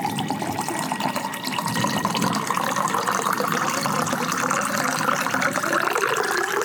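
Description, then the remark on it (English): Tequila pours steadily from a bottle into a glass for several seconds, a continuous gurgling stream whose tone rises gradually as the glass fills, with no voices. “I reached for the bottle of tequila and poured myself a healthy glass.”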